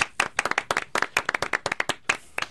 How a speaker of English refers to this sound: How about a round of applause for him?